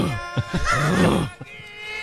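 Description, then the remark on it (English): A person imitates a lion roar: a drawn-out, rough, groaning growl that rises and falls in pitch for over a second, then fades into quieter breathy noise. “Imagine minding your own business, and next thing you hear a lion roar from your neighbor's yard.”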